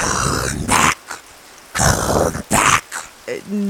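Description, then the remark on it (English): A wolf growls in several rough, throaty bursts, separated by short pauses, with a low voiced sound trailing at the end. “Oh, hello, Wolf.”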